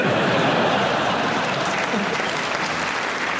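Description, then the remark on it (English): An audience claps steadily throughout, a dense, continuous patter of many hands at a fairly loud, even level with no voices rising above it. “You're clapping because you hope that's the end.”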